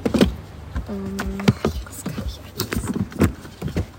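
Car door locks clunk shut with a quick series of mechanical clicks and thumps, alongside a brief electric whir inside the car, as all the doors are locked right after a passenger gets in.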